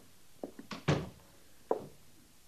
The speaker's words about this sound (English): Close the door, Sergeant.